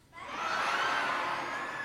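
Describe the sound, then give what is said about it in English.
A large crowd calls out together in a long, wavering, bleating cry, many voices imitating a sheep's baa at once, loud and sustained for a couple of seconds. “A sheep.”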